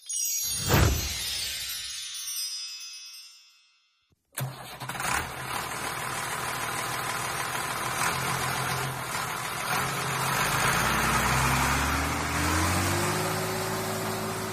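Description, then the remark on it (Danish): A metallic clank rings and fades, then after a brief pause a heavy tractor engine starts up and runs with a steady rumble, its pitch climbing as it revs near the end. “Det er en traktor.”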